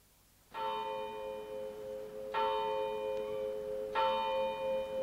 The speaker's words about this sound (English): The clock of the village church was striking 9 as I passed through the lodge gates.